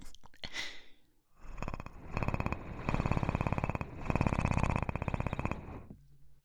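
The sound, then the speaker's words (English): A person imitates a cat's purr with their voice, purring into the listener's ears: a steady, rattling, breathy rumble in two long bursts, separated by a brief pause for breath. “Maybe I can purr in your ears.”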